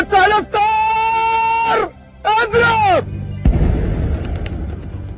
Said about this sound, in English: After sunset and the sound of the Ramadan cannon, people eat their first meal or iftar, which is often a copious multiple-course banquet.